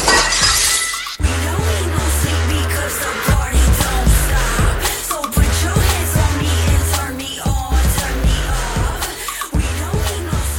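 window glass shattering

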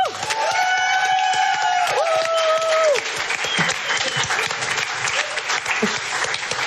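audience applause

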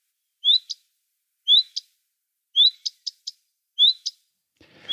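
common redstart song

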